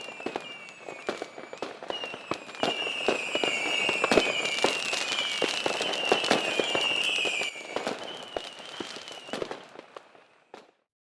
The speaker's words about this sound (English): Suddenly, a fireworks show starts with a loud music.